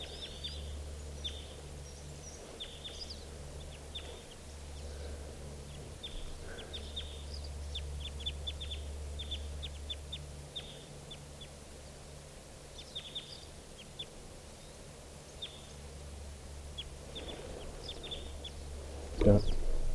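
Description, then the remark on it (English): Three type 2 crossbills and a siskin call in short, sharp, scattered bursts as they fly off together through trees, with quick high chips and kip notes over a steady low hum. “Now those three type 2 crossbills plus a siskin are flying off together.”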